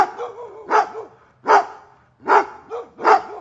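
A large chained guard sheepdog barks aggressively as it leaps against a gate, a rapid series of four or five loud, harsh barks roughly every under-second, with growly whining between them and no voices.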